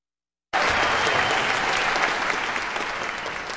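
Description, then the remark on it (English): Silence gives way abruptly to loud, steady applause from a concert audience for members of the Sunflower Music Festival Orchestra after a Dvořák string quintet, at White Concert Hall on the Washburn campus in Topeka. A dense wash of many hands clapping holds its level throughout with no voices. “Applause for members of the Sunflower Music Festival Orchestra in a concert recorded just last Saturday as the Sunflower Music Festival was getting underway at White Concert Hall on the Washburn campus in Topeka.”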